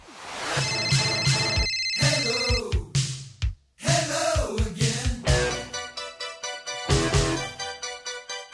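A telephone rings with a bright, melodic electronic ringtone, its tones repeating in quick bursts, pausing briefly midway before ringing on, before a voicemail message. No one speaks.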